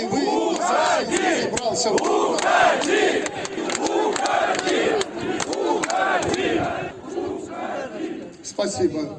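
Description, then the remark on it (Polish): A large crowd of protesting workers shouts and chants at Łukaszenka (Lukashenko), telling him to go away, in the first days of the protest: a loud, continuous roar of many voices rising and falling in rhythmic bursts. “Boi się buntu robotników, którzy w pierwszych dniach protestu krzyczą mu w twarz: odejdź.”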